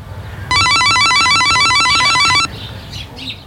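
An electronic intercom buzzer rings at the front door of a nine-storey residential building on Slokas Street in Imanta, in a steady, warbling two-tone pattern for about two seconds, loud, then stops with nobody answering, leaving quiet outdoor background noise.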